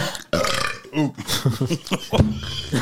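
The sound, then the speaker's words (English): A long, loud, gurgling burp drawn out over a few seconds, with croaky pitch wobbles and a rough rasp that rises and falls, on its own. “That was a funny burp, man.”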